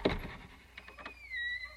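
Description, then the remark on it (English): A heavy door to the queen's chambers unlatches with a thump and a couple of clicks, then swings open on a drawn-out, high-pitched hinge creak, fairly quiet, with no voices. “Open the door to the queen's chambers.”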